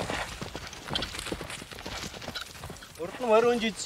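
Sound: horse hooves clip-clopping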